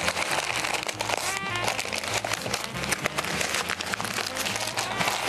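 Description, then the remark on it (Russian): Steady crinkling and rustling of masking tape being handled and pressed down as crumpled material is fixed onto it, with sharp little crackles scattered throughout and a faint tonal hum underneath. “Вот таким вот образом закрепляем. В данном случае на малярный скотч.”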